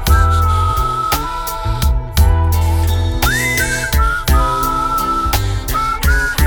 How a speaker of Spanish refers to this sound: el chiflido como va.